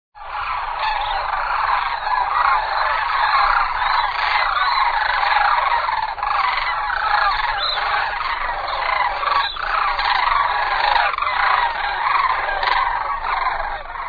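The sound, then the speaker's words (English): A dense chorus of crane calls, many birds trumpeting and rattling over one another in a loud, continuous wall of sound that holds steady throughout, with no talking. “That is the sound of the oldest bird on the planet.”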